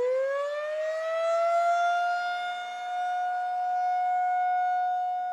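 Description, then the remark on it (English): An outdoor warning siren, the kind sounded for tornado warnings, winds up from a low pitch into a steady, loud, sustained wail with rich harmonics, droning on without pause and no voices present. “And I want to stress that they're now called outdoor warning sirens.”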